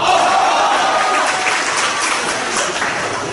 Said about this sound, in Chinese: 我祝鼓掌的朋友今年发财100万。鼓掌带叫好的，发财1000万。